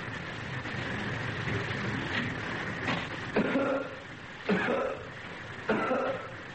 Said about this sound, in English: Thought I got rid of that cough.